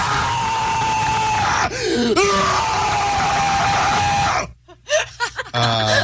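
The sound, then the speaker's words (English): A loud, raw primal scream by a man who used to scream in a screamo band, let out to release feelings, held for about four seconds with a brief break for breath, then it cuts off into silence followed by a few short gasps and breaths. “We'll do like a primal scream, though, so just to kind of like let it out, like we're doing That's here.”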